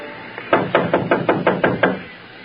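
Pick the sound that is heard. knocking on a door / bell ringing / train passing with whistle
knocking on a door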